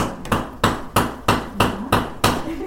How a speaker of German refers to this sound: Letzte Hammerschläge für die Vernissage House of Horrors.